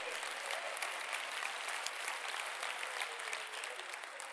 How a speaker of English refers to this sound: Hallelujah. You can clap on that one.